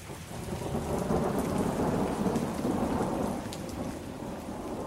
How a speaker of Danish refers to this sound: Men når det tordner, er det en slags lyd fra himlen.